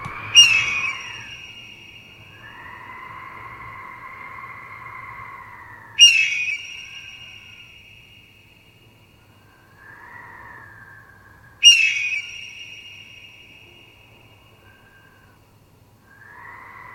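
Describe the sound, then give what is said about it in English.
A bird circling in the sky calls out with three loud, piercing screeches spaced about six seconds apart, each trailing off, with softer, fainter calls in between over a quiet low hum, then climbs higher and higher. “But ironically, after a little bit more, sure enough, the bird started to leave, just climbing higher and higher up into the sky until it was nearly impossible to see.”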